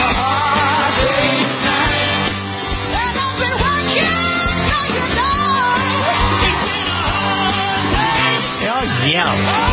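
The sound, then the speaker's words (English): A group of voices shouts a rock song in unison over loud, driving band backing, the yelled vocals steady and strained throughout, full. “Like they can't sing, so they're going to yell it.”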